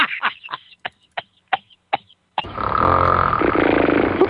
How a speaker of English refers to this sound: Anyway, enough of the dumb snore sound effects that are not working out very well tonight.